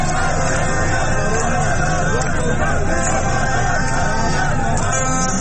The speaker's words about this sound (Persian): نازی‌آباد ویدئویی در شبکه‌های اجتماعی منتشر شده که نشان می‌دهد مردم در کنار شادمانی برای قهرمانی تیم استقلال علیه رهبر جمهوری اسلامی شعار می‌دهند.